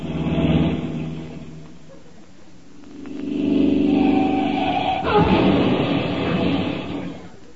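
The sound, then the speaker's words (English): Steady traffic of cars and trucks rumbles past on a busy main highway, with engines swelling loudly as vehicles rush by one after another, a sharp clatter cutting in midway, and no one speaking. “All day, day after day, cars and trucks go whizzing by.”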